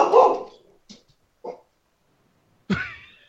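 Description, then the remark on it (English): A dog barks: one loud, throaty woof, a couple of soft huffs, then a final bark that trails into a higher, whiny tone. Nobody speaks. “sorry about Doug”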